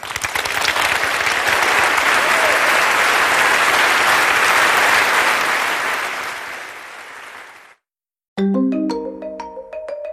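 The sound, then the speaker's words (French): Sustained applause from a large audience, applauding a list of names just read out, fills the first seven seconds, loud and dense, then fades out; after a brief silence, a bright melodic chime jingle plays. “Je vous demande de ne jamais oublier ces noms et peut-être tout simplement les applaudir.”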